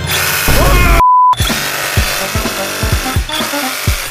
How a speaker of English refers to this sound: This works pretty good. I'm gonna use my little drill right here. Look at that.